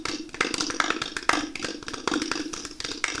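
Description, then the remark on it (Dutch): Dense, steady audience applause: many hands clapping at once in a continuous crackling patter, with sharper individual claps popping out, fairly loud throughout and no voices. “Ja, het hoeft eigenlijk niet zoveel applaus hoor.”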